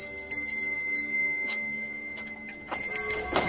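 A front doorbell rings on a frosty, sunny Sunday morning in December, with bright, sustained metallic tones. A few quick strikes sound over a lingering hum before a louder fresh ring near the end. No voices.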